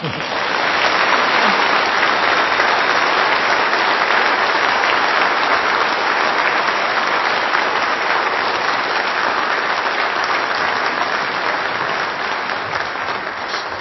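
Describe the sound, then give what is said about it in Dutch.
A sustained round of audience applause for the musicians who played at a morning service, dense and steady clapping from many hands that stays loud for the whole stretch with no voices standing out. “Een applaus voor jullie zou geen kwaad kunnen.”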